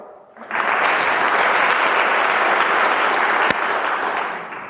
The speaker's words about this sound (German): Da hätte ich jetzt gerne mal ein Beifall, so als Geräuschkulisse. Habt ihr es nicht verstanden? Also jetzt für die erste Variante ein Beifall, wer glaubt, das ist wie die Geschichte ausgeht.